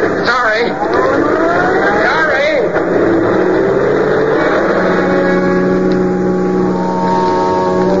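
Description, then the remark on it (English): A car engine revs and pulls back onto the road after a roadside stop, its pitch rising as it accelerates, then settling into a steady hum. A voice speaks briefly over the engine noise. “After I got the car back onto the road again, I felt like a fool.”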